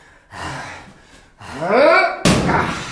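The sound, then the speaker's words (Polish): Heavy breathing and a strained, rising grunt of effort build up before a single loud crash as someone bashes open a locked emergency door, then a burst of rattling noise trails off. “Drzwi zamknięte. To nic. Rozwalę to porkiem.”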